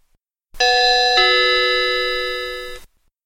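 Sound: bell ringing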